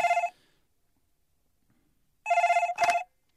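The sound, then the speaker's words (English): A telephone rings in short electronic bursts as a call is placed to Russian President Vladimir Putin: one brief trill, a pause of about two seconds, then two quick rings back to back, clear with no talking. “We've got his number, so, Hive, get him on the phone now. Let's give him a call.”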